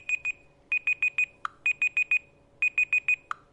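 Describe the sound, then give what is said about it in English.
A smartphone clock timer alarm going off: loud, bright electronic beeps in quick bursts of four, each burst closed by a short lower chirp, repeating steadily with no one talking. “Okay, it's about to go off.”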